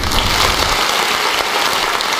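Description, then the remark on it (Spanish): A dense burst of applause sound effect, many hands clapping at once in a steady, loud wash of crackling claps that fills the whole moment without pause, with no voices. “Hay efectos de sonido, rollo aplausos, truenos...”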